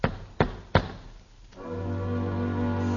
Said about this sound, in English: Someone is knocking. Knocking at the door.